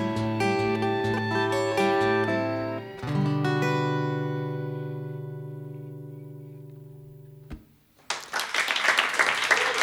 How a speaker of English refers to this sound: with a little bit of clapping in the background. That was nice.